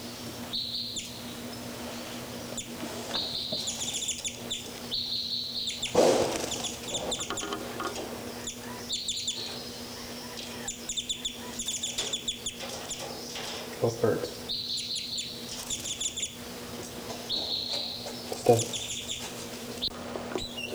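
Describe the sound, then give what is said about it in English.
Two numbered birds, 33 and 59, call while flying around, 59 the more active: bright, high-pitched bursts of chirps and trills recurring every few seconds over a steady low hum, with a few louder thumps mixed in. “Birds 3, 3, and 5, 9 are flying around here.”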